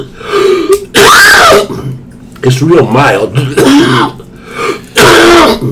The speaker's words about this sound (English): Can you hear me coughing?